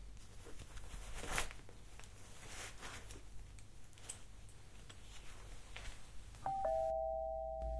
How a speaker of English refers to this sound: Was that the doorbell? Honey! Babe! Did you hear...